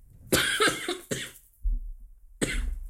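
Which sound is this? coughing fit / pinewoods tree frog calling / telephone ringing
coughing fit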